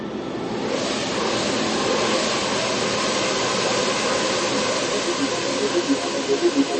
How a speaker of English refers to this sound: And we were so happy to secure the first permit ever in Central Park to fly drones. This is one system, it's 1,000 drones that all are connected, and with one press on the button they come in the air.